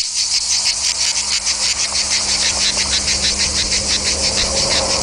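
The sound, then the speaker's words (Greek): Loud, continuous cicada chirring fills the whole recording, a dense high buzz with a steady fast pulsing rhythm and no voices, unrelenting. “Ο Τζίτζικας με τις μεγάλες του διάφανες ηριδίζουσες φτερούγες και εκείνο το ακούραστο, αδιάκοπο, επίμονο, ώρες-ώρες εκοφαντικό θαρρής, τερέτισμά του.”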